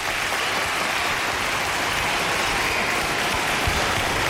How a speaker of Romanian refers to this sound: Aplauze încă o dată. Aplauze, da.